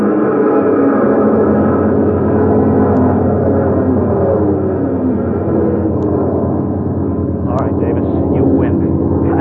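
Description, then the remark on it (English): A propeller airplane engine roars at full throttle, thrown open at 300 feet, a loud, steady drone with a throbbing low hum that holds unbroken for the whole stretch as the plane climbs for altitude in strong wind. “At 300 feet, I threw open the throttle. The plane clawed for altitude, but the wind was hitting it like a pneumatic drill trying to crack it wide open.”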